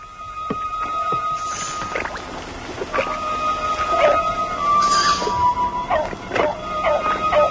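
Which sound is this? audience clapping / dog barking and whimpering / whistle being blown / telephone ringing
dog barking and whimpering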